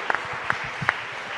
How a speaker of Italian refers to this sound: Ci sta un applauso. Grazie.